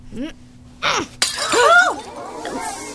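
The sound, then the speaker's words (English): A juggling ball thrown at a glass pitcher shatters it with a sudden sharp, loud crash, followed by a brief tinkle of falling shards, while voices gasp and exclaim in reaction. “Please observe as I throw these harmless juggling balls at this glass pitcher.”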